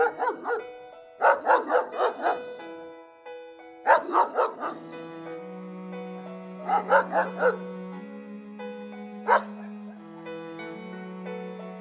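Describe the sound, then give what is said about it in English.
A dog barks in several quick clusters of sharp barks separated by short pauses, with soft sustained musical tones humming underneath. “Oh, Nana, be quiet. Oh, that dog.”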